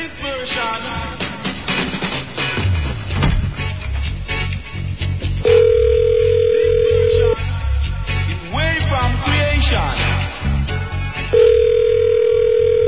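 A telephone dial tone hums steadily for a couple of seconds, twice, amid busy clattering noise from the handset as a number is dialed, reaching directory assistance. Nobody speaks.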